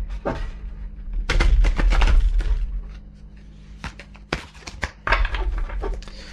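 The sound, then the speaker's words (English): Playing cards shuffled right up against the microphone: bursts of rapid, crisp flutter and snapping clicks in two main riffles, close and fairly loud, over a faint low hum. “The podcast that shuffles cards in front of a microphone will sound better.”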